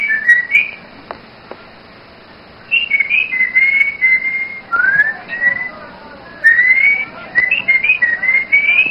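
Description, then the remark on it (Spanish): Two people trade melodic whistled phrases back and forth, each a run of rising and falling glides, with short pauses between turns. The whistling is clear, and no one speaks. It is from the 1948 film Nosotros los Pobres: Pedro Infante as carpenter Pepe el Toro and Blanca Estela Pavón as Celia, in Pepe's carpentry shop. “Los dos están en la carpintería de Pepe y se comunican a silbidos.”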